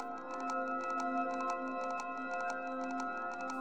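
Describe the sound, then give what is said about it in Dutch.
A very large mechanical clock, built from steel gears, titanium axles, ceramic bearings and quartz and sapphire discs, without springs, pendulums or battery, and made to tick for 10,000 years, ticks steadily with crisp, evenly spaced clicks over a sustained, humming musical drone, both moderately loud throughout. “Want deze klok gaat niet enkele jaren tikken, maar 10.000 jaar.”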